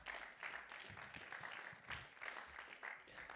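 Steady applause from an audience, a dense wash of many hands clapping continuously at moderate loudness, with no one speaking over it.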